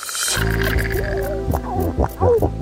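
Low, throaty seal grunts under water: a long droning growl, then a string of shorter guttural pulses and croaks, fairly loud, with no voices.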